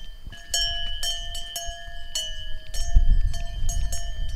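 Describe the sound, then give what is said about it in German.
Cow bells clank irregularly, about ten strikes over a steady ringing tone, while low shuffling and rumbling of cattle fill a stable; no one speaks. “Also, meine Lieblingskuh ist es nicht, aber sie ist eine total nette.”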